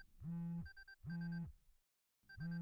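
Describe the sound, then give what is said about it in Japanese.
A phone rings with a loud electronic ringtone, three sustained tonal bursts separated by short pauses, with no voices. “あら、いつものお電話です。”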